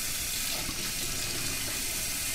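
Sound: water running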